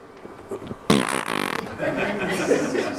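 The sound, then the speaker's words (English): Someone blows a loud, buzzy raspberry lasting under a second, a rough, sputtering lip-trill, with a man speaking before and after it. “Like the a Bronx cheer.”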